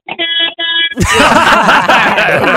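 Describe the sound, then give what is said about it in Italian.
A truck horn, sounded by the driver from inside his truck on the way to market, blares twice in quick succession, loud, then gives way to a burst of laughter and excited voices. “Vai, dai una botta, di clacson del camion.”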